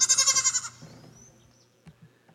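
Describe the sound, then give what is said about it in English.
A goat lets out one loud, wavering bleat with a rapid quivering pulse, lasting under a second, followed by quieter shuffling and faint farmyard noises. “And wherever I have seen sheep, there are also goats.”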